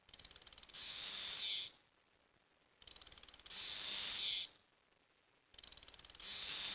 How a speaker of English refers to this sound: That's the courtship song? So the way that they communicate is the male will sing his typical song, and only male cicadas sing. So for everyone you hear, there's a female out there that you don't hear.